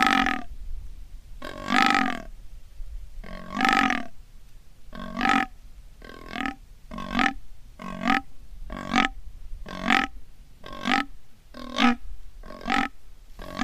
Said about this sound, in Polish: Jest to odgłos Daniela byka właśnie na bykowisku. Do czego to porównać? Najbardziej trafnym określeniem jest bekanie. Niektórzy mówią, że to jest buczenie, ale przyjęło się w gwarze łowieckiej, że Daniel beczy,